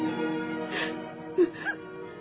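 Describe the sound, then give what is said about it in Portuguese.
A woman sobbing deeply in her bedroom, overcome by sadness, with wavering whimpers and a couple of sharp, catching breaths over a few seconds, no words spoken. “Dentro de seu quarto, no entanto, Lívia não consegue suportar a tristeza e desaba em choro profundo.”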